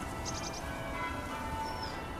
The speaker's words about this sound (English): Listen to the bells.